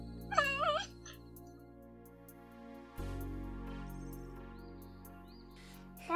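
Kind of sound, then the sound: animal, dog whimpering and yipping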